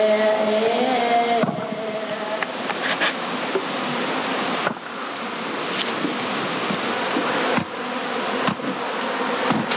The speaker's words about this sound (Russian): Сегодня 18 марта. И я первый раз сегодня увидел, как это пчелы пыльцу несут. Уже пыльцу 18 марта понесли.